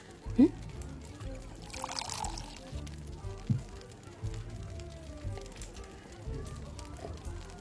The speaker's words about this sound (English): Can I pour you a glass of this, whatever this is?